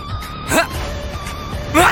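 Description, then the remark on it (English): A dog barks twice, about a second apart, with sharp, fairly loud yaps over a steady, faint electronic hum in the background. “This is why I hate dogs.”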